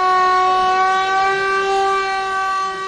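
A civil defense general danger siren wails steadily and loudly in Mostar, Bosnia and Herzegovina, marking the anniversary of the Old Bridge's destruction; its sustained harmonic tone holds almost level with slight pitch drift, sounding alone with no voices.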